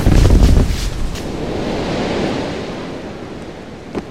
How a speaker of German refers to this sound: Der Gepäckwagen brennt! Irgendeine Flasche ist kaputt gegangen! Der Phosphor. Ah, der Wagen mit seinem Labor und dem ganzen Gepäck steht in Flammen.